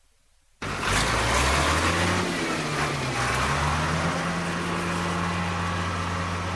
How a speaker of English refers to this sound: A heavy plough toils in the hot sun, breaking ground on virgin soil alongside the Flinders River.